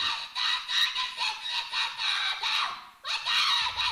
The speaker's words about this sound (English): Her voice, her screaming is very high pitched. It kind of sounds like a screech. And yet, it has enough vocabulary to last 45 minutes. Like, it's not just one kind of screech.